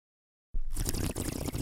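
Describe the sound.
A voice imitates the bubbling gurgle of a bong, starting abruptly after a brief silence and continuing as a steady, fairly loud, watery burble for just over a second.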